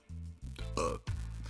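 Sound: burp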